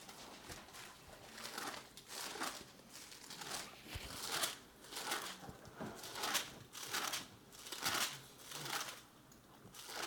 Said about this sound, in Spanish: Yo vi que pasabas muchas hojas, dije, ¿por qué pasa tantas hojas?